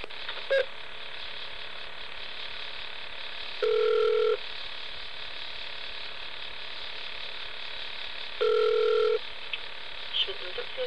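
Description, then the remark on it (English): Telephone line tones: two steady electronic beeps, each under a second long, sounding about five seconds apart over a constant faint hiss, as a phone call is placed to call someone back. “Let me call you back.”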